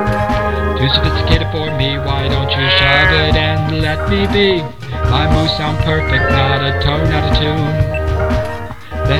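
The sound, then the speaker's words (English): A voice imitates cows mooing, drawn-out repeated moos sung over steady, full musical accompaniment that stays loud throughout. “This is how normal cows sound when they moo.”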